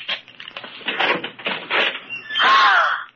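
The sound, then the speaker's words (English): A closet door being opened: a run of rough rattling and scraping handling noises, then a loud, drawn-out creak of the hinge as the door swings, with no voices. “Open that closet door.”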